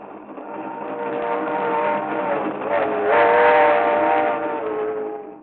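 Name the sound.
train running with whistle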